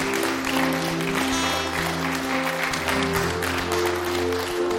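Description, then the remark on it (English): A church audience at a morning service claps to the Lord together in a dense, sustained burst of applause, steady and fairly loud throughout, with a low sustained musical tone underneath. “Clap to the Lord this morning.”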